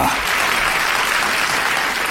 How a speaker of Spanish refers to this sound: Recibimos con un fuerte aplauso a